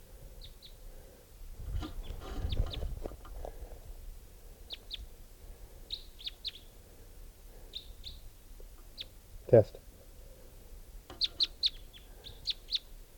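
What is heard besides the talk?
bird chirping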